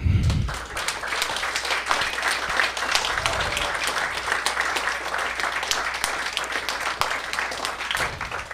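A crowd breaks into sustained applause, dense overlapping claps holding steady at a loud level for several seconds, with faint murmurs and low rumbles from the room underneath.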